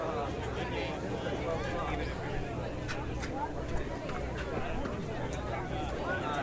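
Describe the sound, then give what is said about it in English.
Dense crowd chatter at the Blind Driver Challenge in Daytona as the crowd is being hushed, five minutes before the 11:30 start. A steady murmur of many overlapping voices with occasional sharp clicks and knocks stays at an even, moderate level throughout. “The crowd here is being hushed a little bit.”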